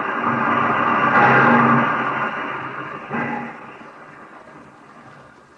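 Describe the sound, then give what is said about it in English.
A train slowing to a halt at Clayborough Station: a steady mechanical rumble swells, then gradually fades, with a brief burst of hiss or clatter partway through. No voices are heard. “To conclude my report, the train pulled to a stop at Clayborough Station.”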